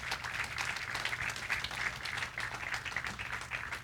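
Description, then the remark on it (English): Sustained applause from a crowd, a dense steady patter of many hands clapping together at moderate volume, filling the whole moment without any talking over it, applauding the volunteers who worked at Workday. “Can we clap for these guys?”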